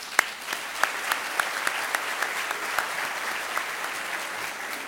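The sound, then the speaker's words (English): A crowd claps steadily for about five seconds after hearing that the AARP named the company a top 50 employer for people over 50, a dense wash of hand claps with sharper individual claps popping out, at an even, moderate loudness with no voices. “Hang on to your applause or you're going to get sore arms because I've got some great news coming up here.”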